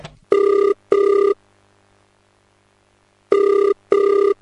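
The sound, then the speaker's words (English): A telephone ringback tone on an outgoing call made from a shop phone to a mother: two pairs of steady electronic double rings, clear, with a pause between pairs and no voices. “But for now, phone your mommy. Yeah, you can use the shop phone since you don't have any airtime.”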